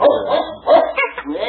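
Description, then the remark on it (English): A small dog, scared by a cow, barks and yips excitedly in a quick burst of several sharp barks, loud and energetic, with no one speaking over it. “The cow scared the dog.”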